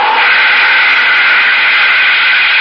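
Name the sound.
spaceship jets starting up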